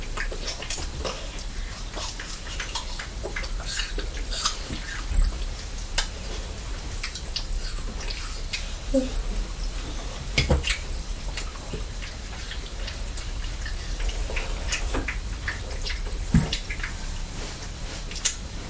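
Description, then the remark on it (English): A pet named Purdy crunching her food: irregular, crisp clicks and crackles scattered over about nineteen seconds, fairly quiet against a steady hiss, with no one talking. “She's crunching, isn't she?”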